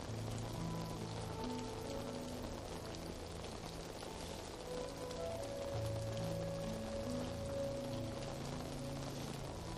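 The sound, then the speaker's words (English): Steady rain patters on a roof, a dense, continuous hiss of drops with no pauses, even in loudness throughout, with a soft low hum beneath it. “It is this rain on the roof.”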